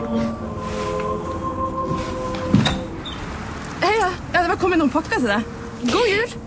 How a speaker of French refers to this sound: Et l'attente est de plus en plus longue, les séparations de plus en plus rude jusqu'à ce que cette année-là, on sonne à la porte.